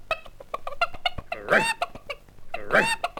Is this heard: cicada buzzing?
no